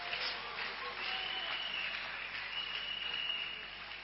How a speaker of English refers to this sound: Clap your hands. Clap hands for you.